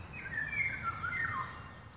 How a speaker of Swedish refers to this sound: Alltså maskrosgul kropp. Och sen den här svarta vingen. Och vi får höra den live den här morgonen. Eller kanske vanligt här, jag vet inte. Till och från så hör man ju den, men det är ju en ovanlig fågel så det är alltid fantastiskt att höra den.